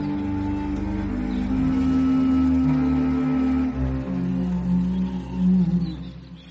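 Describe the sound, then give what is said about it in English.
A whale lying beached in a bay gives a deep, drawn-out moaning call, loud, with rich droning tones that waver and slide in pitch for several seconds, heard on its own without talk. “And this is the whale lying beached in a bay.”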